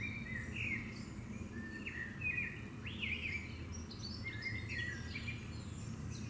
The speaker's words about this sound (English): How time has slowed down, listening to the birds, listening to the sound of my voice, and letting go.